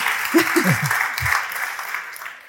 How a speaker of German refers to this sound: Damit würde ich sagen, einen ganz herzlichen Dank und einen Riesenapplaus an euch beiden.